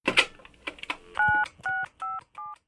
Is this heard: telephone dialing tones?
yes